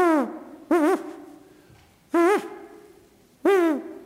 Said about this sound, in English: The barred owl, the hoot owl, the American barred owl.